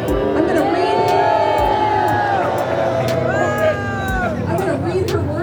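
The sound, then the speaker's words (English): A large crowd of a few hundred people protesting vaccine and mask mandates in a parking lot outside City Hall in Oregon reacts loudly to a speaker quoting Oregon's governor Kate Brown. Overlapping shouts, cheers and whoops rise above a steady roar of many voices, with a few sharp claps or bangs cutting through. “One speaker quoted Oregon's governor to get a reaction from the crowd.”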